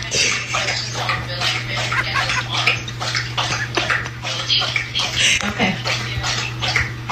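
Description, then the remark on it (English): A dog laps water from a bowl beside a work desk during a Zoom call, in quick, steady wet slurps continuing for several seconds over a low, constant hum. “She left her dog's water bowl right next to her work desk.”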